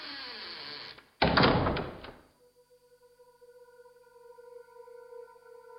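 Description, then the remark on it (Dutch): A door of a house is shut with a loud rushing thud lasting about a second, after a low rumble, as the doors are sealed with stamps behind a man slowly shuffling out; a faint, steady ringing tone lingers afterward. “En hij slofte langzaam het huis uit, terwijl achter hem de deuren met zegeltjes werden dichtgeplakt.”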